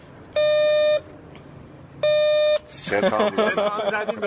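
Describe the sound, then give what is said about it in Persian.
An apartment intercom door buzzer, calling unit 1, rings twice, each a steady electronic tone lasting about half a second with a pause between, followed by people talking. “بیا بگیر دم آیفون. بله خب زنگ زنگ چند؟”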